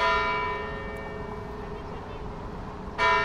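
cathedral church bell ringing

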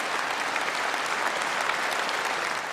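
clapping

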